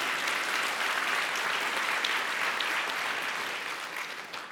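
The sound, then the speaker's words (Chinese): A church audience breaks into sustained, dense applause for themselves, celebrating the building of their church, a steady wash of many hands clapping at once that holds for several seconds and fades slightly toward the end, with no talking over it. “哈利路亚，再次大力鼓掌。”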